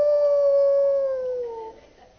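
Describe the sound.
A single sustained wolf-like howl performed by a human voice, strong and steady before sliding downward in pitch and fading out over about two seconds.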